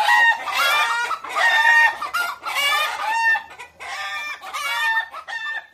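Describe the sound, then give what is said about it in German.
A hen, Elfriede Huhn, clucks loudly and continuously, a rapid series of harmonic squawking bursts in four or five rising-and-falling phrases with no speech. “Elfriede Huhn legt los.”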